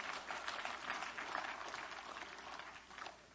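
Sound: audience clapping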